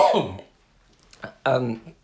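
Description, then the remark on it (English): A person coughs: a rough, raspy burst, a brief pause, then a short cough followed by another harsh, throaty one, with no talking in between. “I'm going to cough, excuse me.”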